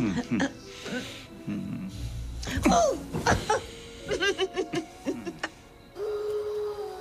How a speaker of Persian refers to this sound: چی بود؟ زوزه گرگ. از ما خیلی دوره. چقدر دوره؟ 2 کیلومتر. هنی؟ 10 کیلومتر.